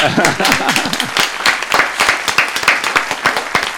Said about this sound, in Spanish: ¿Le damos un aplauso? Vale.